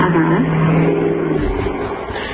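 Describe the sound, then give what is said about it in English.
A truck's engine roars loudly, a deep steady drone with a humming tone that drops away as it drives past, filling the whole moment with no voices. “I sure so hope that truck just drove through your goddamn closet.”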